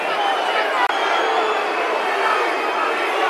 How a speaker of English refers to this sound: The four goes down, stays down again. Some excitement to my right. Like screaming abuse at the four.